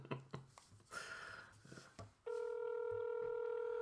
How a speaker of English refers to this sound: This, my phone's on the fritz. We'll see if it works. It's very exciting. He's going to answer in the first ring for you. Probably. Yeah. Or we're just going to have like 2 minutes of the podcast of us listening to a phone ring.